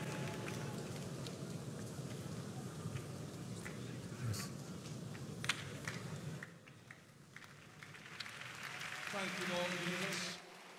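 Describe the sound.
A church audience claps for the Lord steadily in a dense, continuous wash for several seconds during a morning worship service, then the clapping drops away, leaving quieter murmuring and a sustained, tonal voice toward the end.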